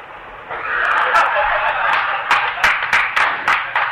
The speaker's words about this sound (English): Oh, you're getting some claps here.